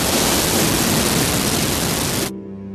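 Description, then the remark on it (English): Loud, dense radio static hisses steadily for a couple of seconds, drowning out a man speaking excitedly in German, then cuts off abruptly, leaving a faint low hum. No voice can be made out beneath the noise. “There was an excited barrage of German that turned desperate when the static started drowning him out.”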